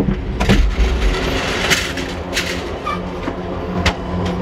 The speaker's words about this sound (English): Otherwise, the cars are dark, just a few blue lights and exit signs to guide the way. Moving between the darkened rail cars, we eventually wind up in the train's viewing car.